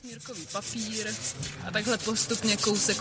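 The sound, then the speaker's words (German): Steady, raspy scratching of ordinary sandpaper rubbed carefully, bit by bit, over a gilded surface in short repeated strokes as gilders remove old coatings in an ornately gilded hall, with a voice talking faintly underneath throughout. “Dabei arbeiten wir mit gewöhnlichem Schmirgelpapier, ganz vorsichtig und Stück für Stück.”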